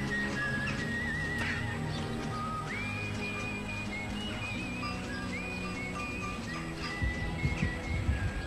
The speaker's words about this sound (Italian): Senti che musica epica.